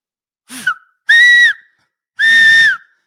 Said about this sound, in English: Now, what I can do is whistle with my fingers. I can whistle with my fingers loudly. Like, let's see. Let me try it.